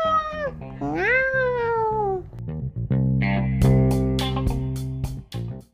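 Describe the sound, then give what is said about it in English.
A group of cats out on the roof tiles meows and caterwauls loudly, starting with long rising and falling yowls before merging into a dense, harsh chorus of overlapping cries. “Just look at all those cats.”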